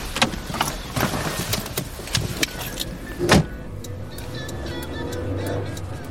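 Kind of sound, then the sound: vehicle, car interior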